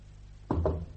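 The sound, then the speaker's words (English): Two quick, dull knocks on a door in close succession, solid and low-pitched, with nothing else sounding before or after. “Why the knock?”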